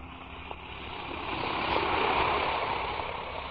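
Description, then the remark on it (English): An Alka-Seltzer tablet fizzes in water, a steady hiss of bubbling that swells slightly in the middle and holds on without any voices. “Now, listen to it fizz.”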